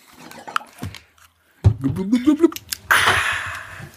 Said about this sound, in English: The sound of refreshing mineral water and malt liquor.